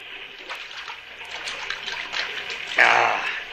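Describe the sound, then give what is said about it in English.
Water splashes and trickles in a steady, uneven patter, then a louder splash near the end as someone scoops or drinks from it. “Yeah, that water looks good. Have some.”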